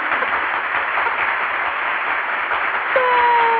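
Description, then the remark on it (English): A burst of recorded applause played from an applause button sound effect, dense steady clapping and cheering that fills the whole clip at constant loudness, with a brief whistle-like tone joining near the end. “We ride the applause button.”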